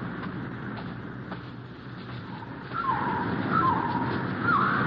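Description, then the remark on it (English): A man imitates a bird call with a few short, warbling whistles in the second half, rising and falling over a steady, rushing background noise. “Never can do that call properly.”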